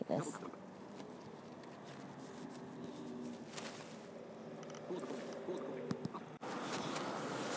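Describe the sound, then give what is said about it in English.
Footsteps splash and squish along a wet road in the rain as people walk after missing a bus, in a steady outdoor wash of noise, with muffled voices murmuring in the background and a brief dropout near the end. “Okay, we're walking and we missed the bus.”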